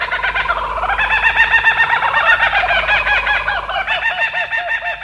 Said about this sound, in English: Yep, Australia's laughing kookaburra is a member of the kingfisher family. And it's been known to dispatch snakes up to 3 feet in length.